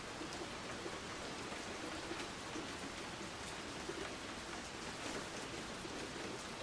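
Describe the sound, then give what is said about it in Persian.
Steady rain that shows no sign of stopping falls continuously, a dense even hiss with scattered patter of drops hitting surfaces, no voices, holding at a constant moderate level throughout. “انگار قرار نیست بارون بند بیاد.”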